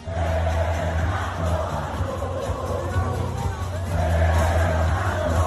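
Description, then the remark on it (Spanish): A large crowd at the Mexican Grand Prix shouts and cheers for racing driver Fernando Alonso continuously, a dense roar of many voices with bursts of chanting, while a low engine-like hum runs steadily underneath. “Te pongo para que veas cómo gritan a Fernando Alonso, y esto no es ni Madrid, ni Barcelona, ni Oviedo.”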